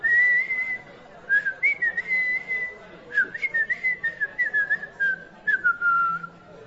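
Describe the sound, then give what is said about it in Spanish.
A man whistles a wavering, sustained tune alone, the pitch sliding gently up and down with short breaks between phrases, clear. “¡Sí, silba! Como si fuera la única respuesta que el mundo pudiera dar.”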